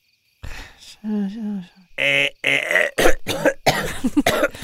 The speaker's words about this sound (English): It's a dry cough. It's a dry cough.